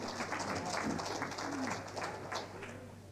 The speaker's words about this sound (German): Danke, ich konstatiere, danke sehr für den Beifall.